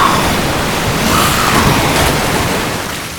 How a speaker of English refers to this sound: I can't believe my eyes as a rush of water comes from the bathroom, down the hall, around Claire, and into the creature, slamming it into the far wall.